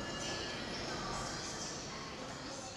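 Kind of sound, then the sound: vehicle, metro train riding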